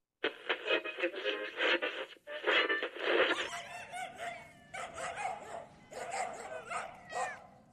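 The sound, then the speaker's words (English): A dog makes a run of noises, rough growly bursts at first, then higher whining yips and whimpers in a steady, uneven series with no talking. “Ah, and this must be Fido. Hello there, big fella.”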